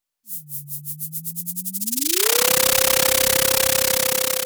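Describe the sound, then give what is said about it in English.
A sonified data sound from an echo sounder on a buoy in the North Pacific Ocean, showing zooplankton swimming upward: a low tone glides upward in pitch and then holds steady, while rhythmic bursts of hiss speed up and merge into a loud, continuous roar of static. “In our data sonification, this is what zooplankton swimming upward sounds like.”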